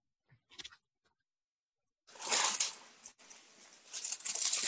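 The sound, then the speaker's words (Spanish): Thin Bible pages rustle and flip in quick succession as someone searches for Philippians, a crisp papery riffling after a couple of brief soft taps, continuing steadily with no talking. “¿Dónde están las hojas pegadas? Ah, no puede ser, Filipenses no puede estar pegadas.”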